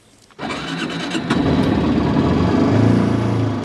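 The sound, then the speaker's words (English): The engine of a high-efficiency car rated at just over 100 miles per gallon catches abruptly after a brief silence, then builds to a steady, loud rumble as the vehicle pulls away, with no voices. “Should we take it for a spin? Let's go.”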